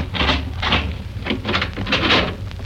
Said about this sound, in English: Here, let me unlock the door to the hill.